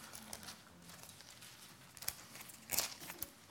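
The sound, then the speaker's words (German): Bible pages are flipped quietly toward the First Epistle of Peter, giving a few soft, papery rustles and brief crisp swishes spread across a few seconds, with no talking. “Oder noch ein paar Seiten könnten wir blättern zum 1.”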